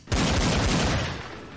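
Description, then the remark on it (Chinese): A loud burst of rapid gunfire, shots overlapping in a dense volley for over a second with heavy low thumps, then tailing off slightly at the end, as two people shoot at each other at point-blank range after climbing over rock cover. “翻过岩石掩体，两个人竟已经处于贴脸状态，近距离互相射击。”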